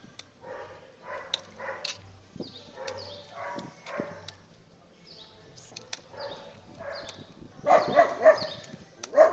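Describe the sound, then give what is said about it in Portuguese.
A dog in front of a gate barks repeatedly in short, irregular bursts, pausing briefly between volleys, with the last few barks sounding louder and more insistent than the earlier ones. “Cachorro aqui na frente, portão.”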